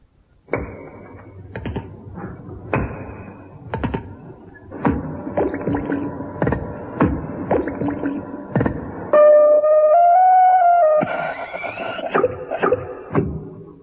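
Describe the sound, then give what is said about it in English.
Musique concrète renforcée by Hilda Tablet, the accompaniment to Enobarbus's famous barge speech opening a stage production: a collage of sharp clicks, taps and thuds, layered drones and sustained tones that slide in pitch, with a brighter, busier passage near the end. No one speaks. “Now here it is, with Dame, then Miss Hilda Tablet, music concrète renforcée as its accompaniment.”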